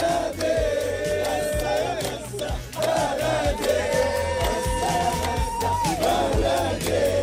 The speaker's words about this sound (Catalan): Així cridaven i cantaven palestins que viuen a la ciutat de Gaza després de saber l'acord entre Israel i Hamas per un alto al foc que les dues bandes han estat mesos negociant.